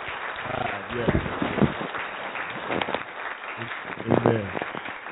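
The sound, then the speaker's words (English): Steady crowd applause sound effect played on a Christian talk radio broadcast, a dense, continuous patter of many hands clapping, with voices calling out and cheering over it in a few short bursts. “This is one of those hand clapping moments, you know? Let me see if I can find it. Applause right here.”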